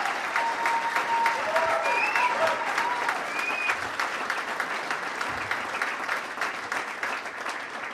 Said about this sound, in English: Come on, let's get you up and give you a round of applause.